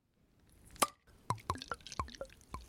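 Cider poured into a glass: a sharp knock, then a quick series of wet glugs and plops, fairly quiet, with no one talking; the poured cider has a bit of fizz on top.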